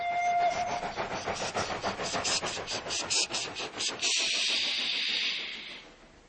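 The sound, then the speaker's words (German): A short, steady diesel locomotive horn blast opens, followed by a rhythmic, pulsing engine chug and a long hiss of released air that fades out. No voices. “Diese Loks haben keine Pfeifen, sie haben stattdessen Hupen.”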